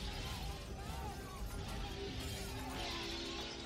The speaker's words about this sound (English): Someone casts the first stone. One of the health office windows shatters. And the others.